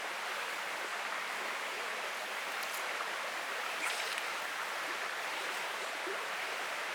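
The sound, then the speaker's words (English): A steady, unbroken wash of river water, not running too fast, flowing by a very deep, quiet fishing pool, a soft even rush filling the whole stretch with no voices or other sounds over it. “Not running too fast? No, not here. It's quite very, very deep, just up from where we are now.”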